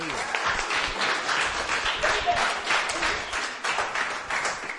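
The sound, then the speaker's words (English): An audience cheers and applauds, with steady dense clapping and scattered shouts blending into a continuous, fairly loud roar for several seconds. “the Lord a cheer.”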